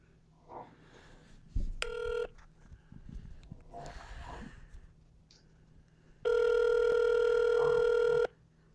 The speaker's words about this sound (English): Who are you ringing? McDonald's.